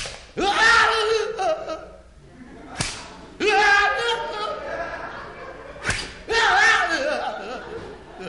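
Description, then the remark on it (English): Three sharp, loud whip lashes land on a man's oil-covered bare back a few seconds apart as punishment, each followed by a drawn-out pained yell or laughing cry from the man. “Okay, …, take your punishment.”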